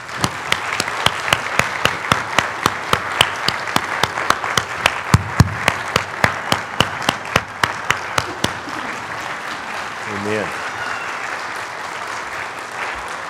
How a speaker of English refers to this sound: You know, you're never least. Could we please give this group a round of applause?